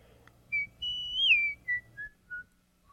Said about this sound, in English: The executioner was whistling and swinging his axe idly, because at the moment he had nothing to do.